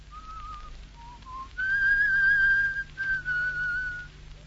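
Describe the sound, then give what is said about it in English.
A person whistles a short melodic tune, a few soft rising notes followed by longer, louder sustained phrases with a brief pause between them, over a faint low hum. “That cackle you'll hear will be … laughing and laughing when he's not whistling his tune”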